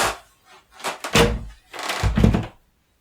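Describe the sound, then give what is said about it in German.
A door in an old building is opened with a few dull, heavy thunks and a brief scraping rattle, two main bursts about a second apart, with no talking. “Dann mach ich jetzt eine Tür.”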